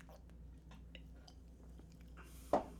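food or drink, sipping beer

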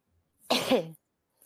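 human body sound, cough and throat clearing

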